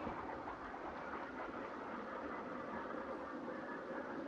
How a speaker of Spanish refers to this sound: Estos ruidos que vimos en el fondo son aviones que pasan por arriba, parece.